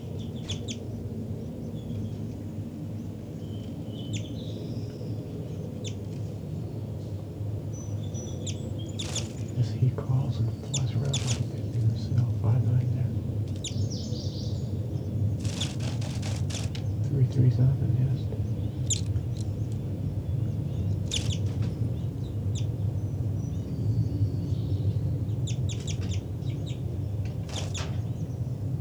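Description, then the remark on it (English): A bird at its nest, settling back onto it, gives a series of short, sharp calls at irregular intervals, some in quick clusters, over a steady low rumbling background. “3'3", back, settling onto the nest. Stop. It's recording again. This is bird 5'9".”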